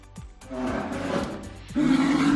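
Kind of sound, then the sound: animal, polar bear roar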